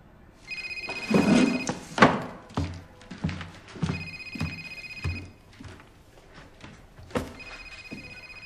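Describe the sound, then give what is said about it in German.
A telephone rings in three steady electronic bursts a few seconds apart, moderately loud indoors, while dull thumps and knocks of objects being handled sound around it. “dein Telefon klingelt.”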